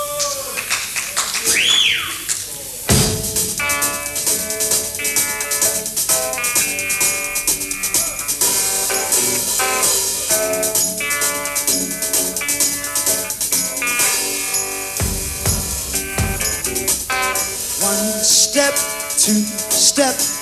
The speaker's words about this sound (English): This is one of the songs, again, included on the new LP